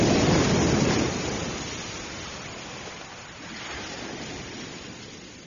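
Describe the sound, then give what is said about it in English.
Ocean waves wash onto a beach, a loud rushing surge in the first second that recedes, then a softer second swell rolls in and draws back. No voices. “Sinking into the warm sand. And words... lost in the waves, suck and roll.”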